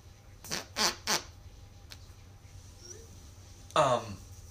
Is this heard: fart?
yes